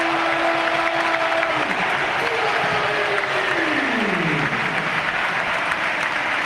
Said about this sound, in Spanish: Qué bonito, qué aplauso se lleva Diakabi, que ya reapareció la semana pasada en el desastre de Montjuïc, tuvo unos minutos. Y ahora ha vuelto 11 meses después. Diakabi, te quiero, canta Mestalla.